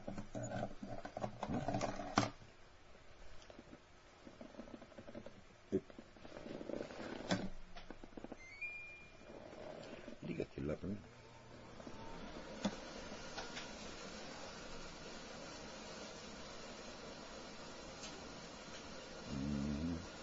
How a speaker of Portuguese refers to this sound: Deixa eu ligar aqui o ar-condicionado, porque está muito calor.